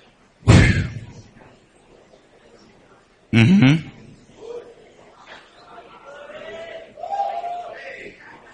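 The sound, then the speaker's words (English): An audience chatters in a steady murmur of overlapping voices as people talk to the person beside them, broken by two loud, sudden shouts near the start and middle, with a few raised voices calling out afterward. “You can hear those shouts here and there.”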